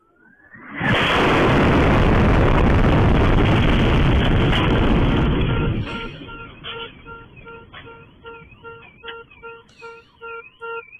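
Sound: missile strike explosion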